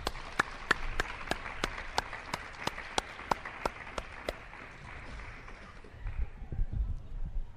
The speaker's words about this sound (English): So please join me in inviting them up with a round of applause.